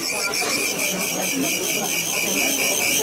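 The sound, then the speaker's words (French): Crickets in China chirp continuously in a shrill, high-pitched drone, with rapid regular pulses running steadily throughout, fairly loud and unbroken. “C'était bruit de grillon que j'étais en Chine quand j'avais 10 ans en fait.”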